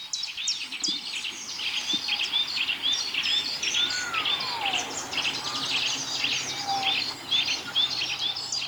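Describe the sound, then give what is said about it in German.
A dense chorus of birds chirping and whistling, with one odd, long, sliding whistle that swoops downward and a brief shorter whistle, steady throughout with no voices. “Wer pfeift denn da? Was pfeift denn da für ein komischer Vogel?”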